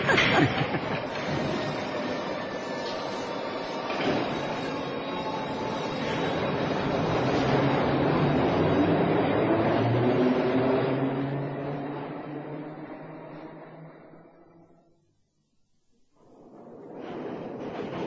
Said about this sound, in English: It's just the teeniest bit scary, don't you think? What was that? Hurtling along like this underground. Supposing a train was coming the other way on the wrong track.